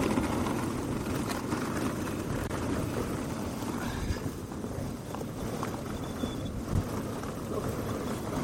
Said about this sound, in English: Is it always windy up here?